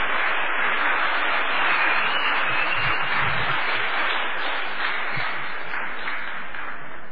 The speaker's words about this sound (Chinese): 让我们掌声欢迎我们今天第一位的讲员